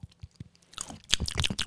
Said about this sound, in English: Is that how you eat? No. You chew like a cow.